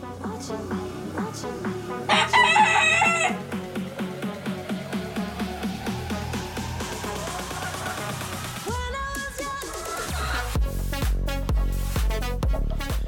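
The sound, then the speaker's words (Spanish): Chickens cluck in a rapid, steady rhythm for the whole stretch, with a short, loud burst that sounds like a rooster crowing near the start, all over a dense, busy background. “Prepara tus gallinas.”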